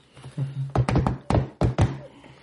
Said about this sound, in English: I'm going to go over to the hull and knock the same pattern back. You know, whatever. Okay, so you knock the same pattern back.